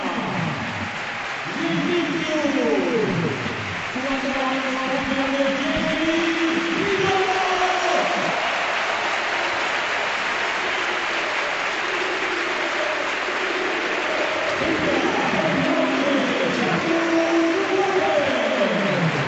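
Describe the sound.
A large stadium crowd at a Villarreal football match gives a sustained ovation during a double substitution as Samu Chukwueze comes on and Jeremy Pino goes off, dense applause and cheering roaring steadily throughout, with scattered shouts and voices rising and falling above the clapping.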